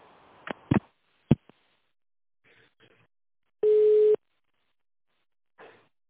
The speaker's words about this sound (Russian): Ну, занят телефон в главном городе, позже перезвоните.